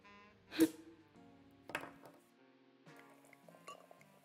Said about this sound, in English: Here it is. A genuine Chouet champagne bottle. Let me pour us some.